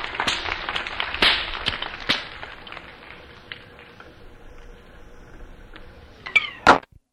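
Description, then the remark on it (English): A whip cracks sharply several times at irregular intervals, each snap loud, with a quieter stretch before a final pair of hard cracks near the end; a whip-cracking act by the performer Curly Deacle at a live noon stage show. “Let's welcome the Whip Cracker, the best one in the land.”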